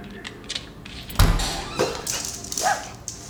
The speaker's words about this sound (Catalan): Surt un gos que a gran velocitat i remenant la cua em salta al damunt.